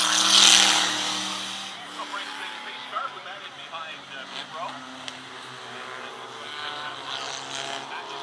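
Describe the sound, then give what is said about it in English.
A race car engine, apparently a V6 rather than a four-cylinder, drones steadily, its low, buzzing hum holding throughout, with a louder burst of noise at the start and indistinct voices in the background. “That's not a four-cylinder. That was like a V6 or something.”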